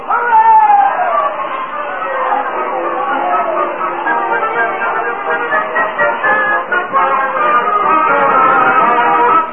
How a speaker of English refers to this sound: Oh, Times Square, a surging, laughing, eager crowd. Standing on the borders of a new world as 1920 was but a few seconds old.